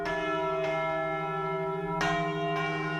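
Church bells of the sanctuary of the Virgin of Nuestra Señora de la Almudena ring out in overlapping peals calling to mass, with fresh strikes landing over a sustained, resonant hum of harmonics. The sound is loud and continuous, with no voices present.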